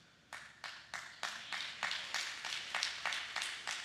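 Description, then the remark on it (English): A single audience member claps steadily during a church sermon, about a dozen sharp, bright claps in an even, fairly quick rhythm, with no talking over them. “I don't know who's clapping over here, but give them a $100 bill to keep them going.”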